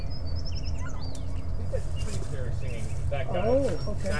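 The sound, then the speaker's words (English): A sparrow sings outdoors, a quick series of thin, high chirping notes near the start, over a steady low rumble, with a burst of lower warbling calls toward the end. “Oh, that's a tree stutter singing out there. What's that?”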